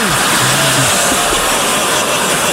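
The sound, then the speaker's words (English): A crowd boos loudly and steadily, a dense wash of low, drawn-out jeering voices blending into a continuous roar for a couple of seconds. “But don't worry, he'll be back in 20 years when he becomes the first person ever booed during the In Memoriam.”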